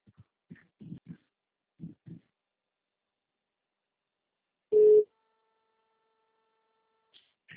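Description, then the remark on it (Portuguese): A telephone rings once, a short, loud electronic tone burst standing out after a stretch of faint murmuring voices, then quiet. “Esse telefone, será que é da moça?”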